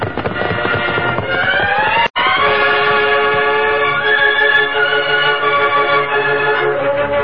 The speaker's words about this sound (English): Look, Tonto, just beyond the rise, that's the westbound train. Left Laramie over 30 minutes ago. There's no reason for it to stop here unless it... Listen, it sounds like a holdup.